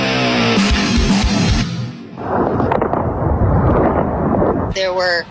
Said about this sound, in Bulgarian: Има много изтребители и непрекъснато се чува стрелба от артилерия. Като слушам, не ми се струва сраженията да утихнат. Напротив, ужесточават се.